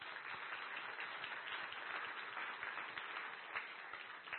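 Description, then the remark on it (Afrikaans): An audience claps to welcome people into the audience, in a steady, dense round of applause. Many overlapping claps form a continuous bright patter at an even loudness throughout. “Ek dink ek al vir 'n lekker hande klap.”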